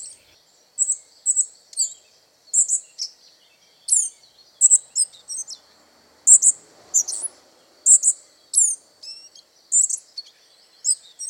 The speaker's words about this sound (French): Oui, vous l'avez reconnu, c'est le gobe-mouche gris. On le trouve dans n'importe quelle zone boisée où les arbres en sont bien présents et où il peut trouver un perchoir facilement. Il vit dans les forêts de feuillus et de conifères.